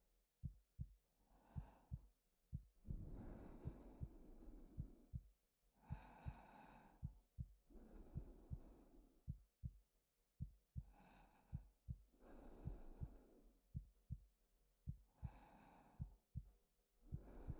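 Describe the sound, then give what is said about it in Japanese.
A fast, steady heartbeat thumps in a quick, even rhythm, with soft, airy breaths rising and falling over it throughout. No one speaks. It is a person's own racing heartbeat, played for a listener to hear. “心臓の鼓動が早金のように高鳴っちゃって、本当はもっと穏やかな音を聞かせてあげたいんですけど、どうしても”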